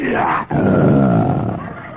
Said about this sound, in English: And as the night wore on, my feverish mind was frightened by the sounds of the jungle. The roar of the lion.